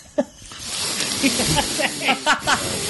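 breathing into the microphone

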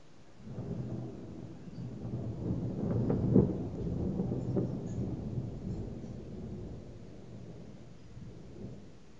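thunder rumbling

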